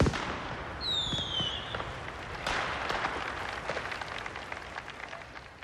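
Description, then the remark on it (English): Fireworks crackle and pop in a dense, continuous barrage of a firework display, with a descending whistle near the start and sharper bangs scattered throughout, with no voices. “These pleasure garden venues always ended their gigs with a firework display.”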